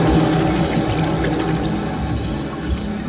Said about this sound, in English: They grabbed onto the rope and hoisted themselves up hand over hand, just as a geyser of water exploded through the roof.